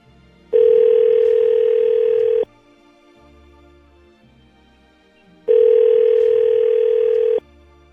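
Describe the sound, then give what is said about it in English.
A telephone ringback tone sounds twice as a call is placed to a woman, each steady buzzing ring lasting about two seconds with a pause between, loud and clear with no talking. “Let's get her on the phone.”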